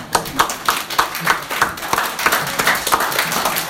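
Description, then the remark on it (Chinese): A church audience applauds the mothers on Mother's Day, many hands clapping in a dense, continuous patter with a few sharper individual claps standing out, holding at an even moderate loudness throughout. “我们给她鼓掌。”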